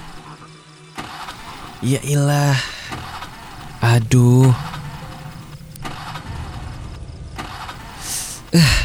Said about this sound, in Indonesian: Kenapa sih ini motor? Aduh Teh, maaf ya, motornya mogok.